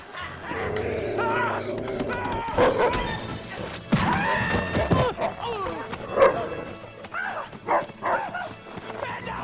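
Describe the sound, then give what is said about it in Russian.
A dog barks and yips in sharp, excited bursts, with several loud yelps standing out amid a busy, cluttered background. “плохая собачка, фу!”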